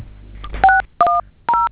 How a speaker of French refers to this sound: Notez sur un autre téléphone, s'il vous plaît. Arrêtez de manipuler les touches du téléphone.